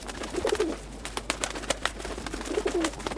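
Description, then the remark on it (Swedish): Pigeons cooing in two soft, low rolling bursts, one near the start and one near the end, over a steady background hum with faint clicks and scratches. “Och duvorna. Utanför mitt fönster fanns det jättemånga duvor.”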